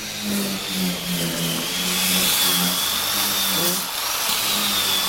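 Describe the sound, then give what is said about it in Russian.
A power tool whines steadily inside a straw house, a loud, continuous grinding buzz with a bright, harsh edge and a low hum beneath, running without pause for several seconds. “Что-то пилит уже тут.”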